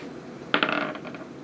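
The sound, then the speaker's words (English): A hard plastic twenty-sided die is rolled onto a table during a tabletop role-playing game, a sharp first strike followed by a quick run of smaller rattling bounces that fade out over about a second. “Alrighty, roll d20.”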